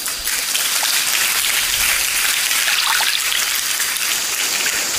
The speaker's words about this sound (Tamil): Now watch this, இந்த தண்ணீர் தொடர்ந்த தண்ணீர் அந்த கல்களுக்கு மேலே வந்து பட்டுக்கொண்டே இருக்கிறது இல்லையா?